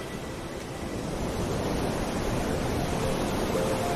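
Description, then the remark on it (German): Steady ocean surf early in the morning rushes continuously, a broad wash of breaking waves at moderate loudness with no pauses and no voices. “Die Vögel, der Wind und die wohlklingende Sinfonie des Meeres.”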